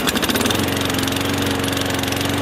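lawn mower engine running

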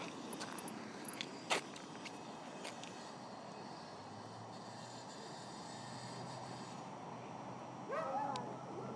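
dog barking and whimpering

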